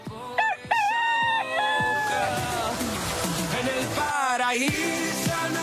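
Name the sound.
rooster crowing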